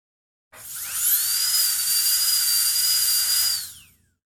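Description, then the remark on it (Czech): A dentist's drill whines at a steady high pitch for about three seconds, rising quickly at the start and dropping away at the end, with a faint low hum beneath and no voices, as a dentist drills a decayed upper right tooth. “Budu vás muset vrtat.”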